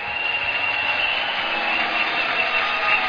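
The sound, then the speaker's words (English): An audience gives the Lord a clap offering, clapping together in a dense, steady wash of applause that holds at an even loudness for about three seconds, with no voices rising above it. “I said, give the Lord a clap offering.”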